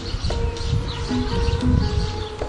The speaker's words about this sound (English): Standing on my balcony, enjoying the sunshine, listening to all the birds, sparrows mostly.